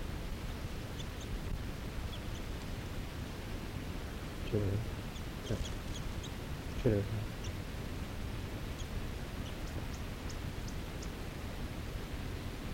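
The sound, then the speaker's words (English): A male bird gives a chittering call about 6 feet away: short, thin, high-pitched notes scattered irregularly over a steady background hiss, with a couple of soft rustling thumps in between. “Okay, there's a chitter of a male I'm on, about 6 feet away from.”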